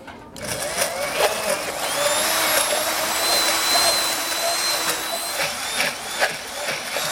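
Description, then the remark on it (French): A hand blender whirs loudly and continuously for several seconds, a steady high-pitched motor whine with slight wavering, as it blends olive oil, vinegar and salt into a thick sauce like a mayonnaise, with no voices. “On met l'huile d'olive à hauteur du produit et on prend un mixeur.”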